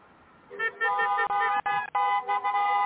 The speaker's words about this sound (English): In Little Village, where the heart of Mexico beats in Chicago, honking and cheering can be heard for blocks on the eve of Mexican Independence Day.